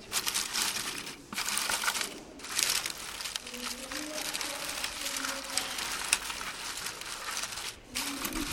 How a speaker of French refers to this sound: Alors, c'est une manière aussi assez drôle de mélanger les feuilles, les branches et puis les bouts de papier.